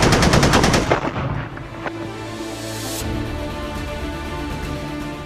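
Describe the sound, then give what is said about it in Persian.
A loud, rapid burst of automatic gunfire from enemy positions on the heights above, with tightly spaced repeating shots for about a second, then scattered shots and a lingering rumble as the firing tapers off. “از بالا ارتفاع بهمون تیراندازی میکنن. زیر آتش مستقیم دشمنیم.”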